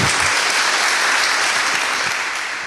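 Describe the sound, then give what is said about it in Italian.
Steady, dense audience applause in Montefalco fills the whole stretch, a broad wash of many hands clapping at an even loudness that tapers slightly at the end, with no voices standing out. “Sono molto e allora ci vuole un bel applauso.”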